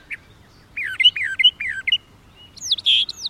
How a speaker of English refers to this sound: In a dense Midwestern shrub, a brown thrasher holds forth. The slender, secretive thrasher prefers singing from the shadows.